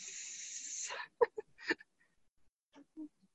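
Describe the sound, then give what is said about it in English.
A voice imitates a snake with a steady, drawn-out hiss lasting about a second, followed by a few short, soft mouth sounds and breaths. “And the snake, shh, let's go knock someone else's.”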